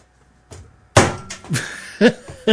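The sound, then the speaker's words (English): A single sharp, loud hammer blow, swatting a fruit fly, lands on a hard surface, leaving a brief metallic ring, followed by a few softer knocks and rustles. “There, actually use the hammer. I think it's dead.”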